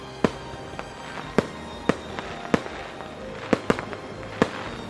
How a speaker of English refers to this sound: Wow! I didn't know there were going to be fireworks!